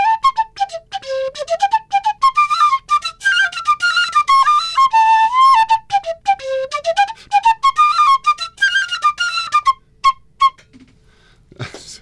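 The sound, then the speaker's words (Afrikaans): A small plastic training flute for children plays a simple melody, bright reedy notes stepping up and down for about ten seconds before stopping, followed by quiet and a faint rustle. “Hy is eintlik 'n opleidingsfluit vir kindertjies. Maar hy het 'n pragtige klank.”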